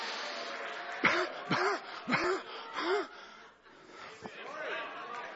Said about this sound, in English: Get the cough. Oh, glory! Get the cough, my brother!